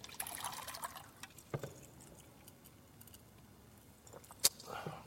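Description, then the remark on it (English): Water pours briefly into a glass, a soft splashing trickle at the start, followed by quiet handling clicks and one sharp tap near the end, with no talking. “Excuse me, let me just grab a water real quick.”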